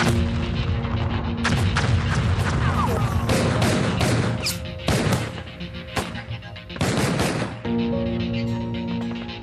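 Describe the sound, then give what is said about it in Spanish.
Loud battlefield gunfire of conventional warfare crackles in repeated bursts, with rapid machine gun volleys and heavy booming blasts of missiles and explosions, continuing almost without pause over a steady low droning hum. “En el campo de batalla, la guerra de siempre suena así.”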